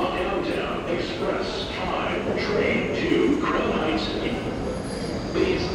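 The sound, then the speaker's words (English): A subway train rumbles steadily through an underground station, a loud, continuous low roar with metallic hiss, while indistinct voices murmur in the echoing space. “So now we are descending into the subway.”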